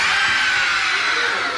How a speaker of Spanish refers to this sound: Me encontré con una casa abandonada. Se oían gritos.